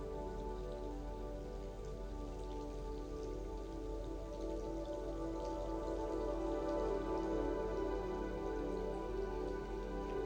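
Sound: rain falling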